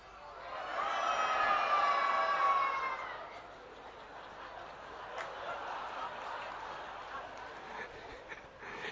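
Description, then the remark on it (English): A group of people voice loud, strained, trumpeting cries together for about three seconds, imitating an elephant struggling with all its might to pull a chariot, then the sound breaks into scattered murmuring and rustling noise from the crowd. “Everyone try to make the sound of the elephant struggling with all of their might, painfully trying to pull the chariot.”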